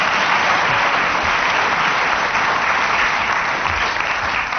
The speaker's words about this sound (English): Would ask the audience to be a bit quicker with the applause, because it's the only way we know that a game's finished.